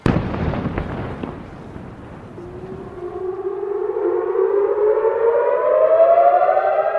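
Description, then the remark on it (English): A few sharp explosion bangs give way to an air raid siren across the rooftops of Jerusalem at night, rising into a long, sustained wail, echoing outdoors and growing steadily louder, with no voices, as Iron Dome air defence missiles intercept an Iranian attack. “We heard sirens across the rooftops of Jerusalem.”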